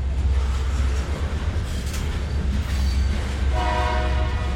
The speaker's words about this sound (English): There's only one train line left in Concordia, Kansas, and these days it hauls grain.